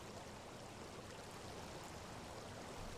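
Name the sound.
flowing stream water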